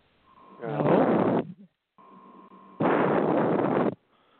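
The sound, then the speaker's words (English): Two loud, rushing breaths blast into a telephone line, harsh and distorted, each lasting about a second with a short quiet gap between them. “Somebody's breathing heavily.”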